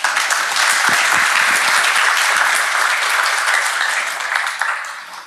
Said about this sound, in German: Und ich bitte um einen Applaus für unseren Vortragenden.